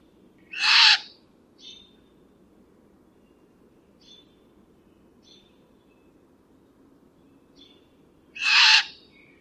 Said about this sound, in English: Well, and the great horned owl, which we have the sound of, we're going to take a little break here and put the great horned owl sound in.